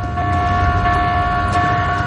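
A ship's general alarm, sounded aboard the ship during a paranormal investigation to simulate an attack at sea, blares steadily: a loud, continuous electronic tone with strong sustained harmonics and a low rumbling undertone, holding without pause throughout.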